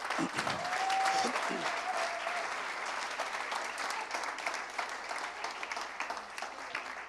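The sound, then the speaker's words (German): Sustained audience applause for the speaker's father and mother fills the whole clip, a dense steady patter of many hands clapping, with a brief high whistle-like tone near the start and a few voices underneath. “Wollen wir Applaus geben für die?”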